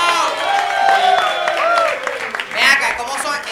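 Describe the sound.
An audience bursts into steady applause mixed with cheering voices, a dense, loud wash of clapping that swells again near the end.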